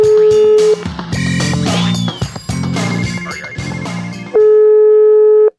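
A loud, steady electronic telephone tone sounds briefly at the start and returns near the end, with a busy stretch of clattering, music-like sound in between.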